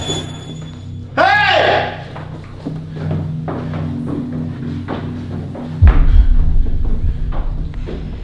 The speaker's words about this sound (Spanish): Cerró la puerta. La cerró.